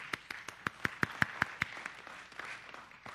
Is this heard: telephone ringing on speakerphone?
no